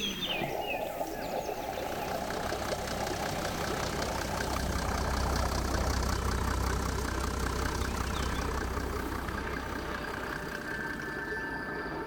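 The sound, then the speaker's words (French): A steady engine idles continuously, a low throbbing rumble with a fast chugging pulse that holds even in loudness throughout, like a tractor or motorcycle ticking over. “avec des sons de tracteurs, de motos, d'animaux.”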